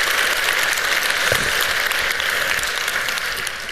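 Steady audience applause, a dense wash of many hands clapping that stays loud throughout and tapers only slightly toward the end, with no voices over it.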